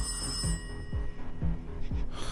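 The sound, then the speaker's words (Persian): A telephone bell rings in steady repeated bursts, about two per second, fairly loud over a constant background hum, with no one speaking. “این دیگه چی؟ تلفن لعنتی.”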